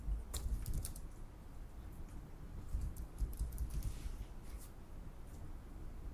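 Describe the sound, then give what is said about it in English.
Steady keyboard typing as someone types out code, with quick irregular clicks of keys pressed in short bursts and brief pauses, over a low background hum. “which of course looks bad when I'm typing it out like this.”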